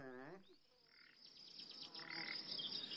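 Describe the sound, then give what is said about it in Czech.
A small bird chirps in a quick series of short, high tweets, fairly faint, against a soft outdoor background hum. In a Smurfs cartoon, the bird has flown to the Smurf village carrying Poseidon's medallion and perches on Papa Smurf's window. “Ptáček, který letěl k vesnici Šmoulů s nebezpečným medailonem Poseidona, se posadil na okno taťky Šmouly.”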